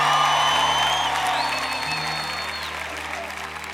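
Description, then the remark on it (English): A church audience, standing, claps and shouts praise to the Lord in loud, sustained applause, with raised voices and whoops mixed into a dense wash of clapping that stays steady before easing slightly toward the end. “Somebody jump to your feet and give the Lord a shout of praise in Jesus' name.”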